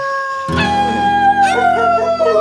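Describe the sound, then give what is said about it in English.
Several wolves howl together in long, overlapping, wavering tones that rise and fall, loud, after a brief quiet start with no talking. “Oh, no, I forgot. It's Thursday. It's Wolf Night.”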